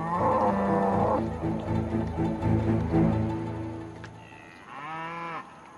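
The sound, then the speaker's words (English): A cow moos loudly, one long drawn-out low call followed after a brief pause by a shorter, rising moo, with no voices present. “A bridge in Baghdad has been bombed, separating a cow from the rest of its herd.”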